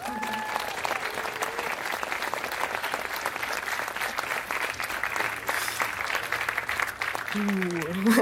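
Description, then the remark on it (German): A sustained round of audience applause introducing a talk on particle physics, dense and steady clapping from a large crowd, with faint voices and a brief whistle-like tone near the end. “Einen großen Applaus bitte für den Einstieg in die Teilchenphysik”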